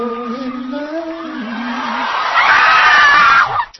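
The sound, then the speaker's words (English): A single loud, drawn-out scream with a wavering pitch that rises into a harsh, strained shriek, with a faint crowd-like wash building underneath before it cuts off abruptly. “I think you sweetened that scream a little bit there, just a tad.”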